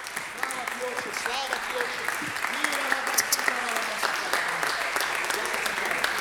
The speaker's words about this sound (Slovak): Dajte veľký potlesk Ježišovi.